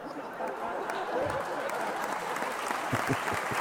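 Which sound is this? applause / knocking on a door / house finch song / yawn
applause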